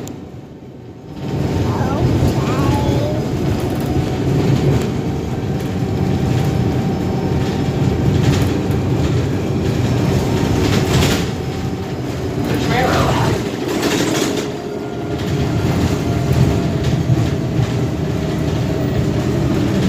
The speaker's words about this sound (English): Nobody else on the bus, just us. SC 29, Arlington Boulevard. Here we go, down the hill on the bus.